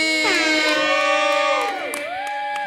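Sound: audience applause and cheering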